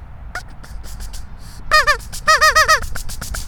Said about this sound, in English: I will say goodbye to my goosey friends with my duck call.